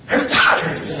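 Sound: sneeze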